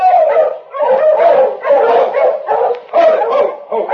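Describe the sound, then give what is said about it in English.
A pack of sled dogs barks and yips continuously, overlapping excited calls with some howling tones, fairly loud with no pauses across the few seconds. “These dogs look as if they've come a long way.”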